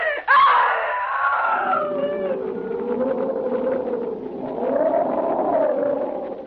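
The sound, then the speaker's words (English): At night, after touching something cold and gelatin-like, a woman lets out a long, loud scream that bursts in suddenly and then wavers and sustains for several seconds, filling the space with a shrill, echoing wail. “That was the night, John, that I screamed.”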